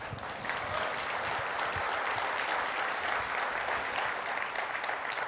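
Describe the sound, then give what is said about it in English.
An audience applauds steadily during a live-streamed presentation, a dense wash of many hands clapping at once, holding loud and even for several seconds with no voices rising above it. “But if you clap, then she might think I'm cool or something.”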